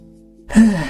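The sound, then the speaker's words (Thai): A single strained, wheezy breath from a person on a long bench beside a pond in a public park begins halfway through, loud, with a breathy rush carrying a faint whistling tone, like a labored gasp or sigh. “ทำไมหายใจมันดังฟีฟีสงสัยเชื้อคงจะเข้าปอดละ”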